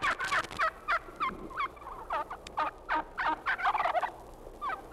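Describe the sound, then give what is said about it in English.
A Florida wild turkey gobbles in a series of loud, rapid, rattling bursts that repeat throughout, over a faint outdoor background with no talking. “That was a Florida wild turkey.”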